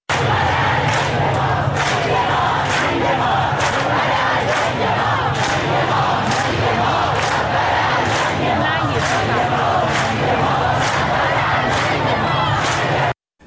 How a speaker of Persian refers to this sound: در خیابان ولیعصر تهران شعار مرگ بر دیکتاتور سر داده شد.